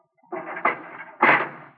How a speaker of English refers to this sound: I wish you to walk to that cell in the far corner. Go in and close the door behind you. You will then stand with your back to the door.